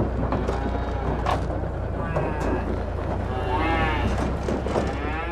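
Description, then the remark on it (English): Mother cows and their calves moo back and forth as they bang down a truck's ramp at a cattle chute while being unloaded, calling for one another. Several overlapping calls rise and fall over steady low rumbling and clattering, with a voice faintly audible underneath. “Mama cows and their calves bang down the ramp, calling for one another.”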